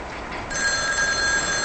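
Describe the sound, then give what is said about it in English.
A telephone rings with a bright, sustained electronic tone that starts abruptly partway through and continues steadily to the end, clear, with no voices. “Lisa stands, then answers the phone.”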